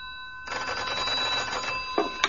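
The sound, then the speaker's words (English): An old-fashioned telephone bell rings in one sustained, rattling burst of about a second and a half, fairly loud, followed by a couple of brief clicks, in a bachelor apartment in a cul-de-sac off Pall Mall. No one speaks. “At the following morning, at his bachelor apartment in a cul-de-sac off Pall Mall, he had 2 callers. The first by telephone.”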